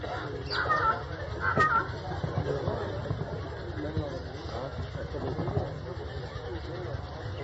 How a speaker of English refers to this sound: the sweetest crow I ever heard. This is a Madhurya crow.